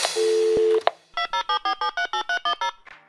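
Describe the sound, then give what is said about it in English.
Telephone tones of a call to the Wow in the World line: a steady, low dial tone holds for under a second, then a quick run of about ten short, evenly spaced electronic beeps, like keypad dialing. “Hi, thanks for calling Wow in the World.”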